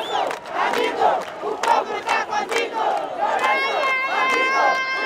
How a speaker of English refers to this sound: At that moment, the entire pavilion fills with smiles. People dance, one man shouts, "It is over. Our great president can now rest." And the crowd chants, "Lourenço, friend, your people are with you."